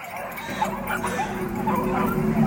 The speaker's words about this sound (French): Et ces satanés aboiements qui n'arrêtent jamais.